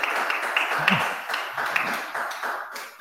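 Steady crowd applause with dense, continuous clapping from many hands, fairly loud and even throughout, with a faint brief vocal sound partway through.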